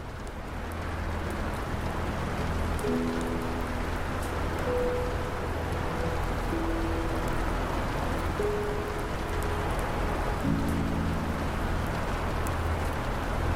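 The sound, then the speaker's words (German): Soft, steady rain patters continuously on a glass roof overhead, with scattered distinct droplet taps and a few faint low sustained tones humming beneath. “Der Regen prasselt sanft auf das Glasdach und verleiht deiner Erfahrung eine zusätzliche Ebene des Komforts.”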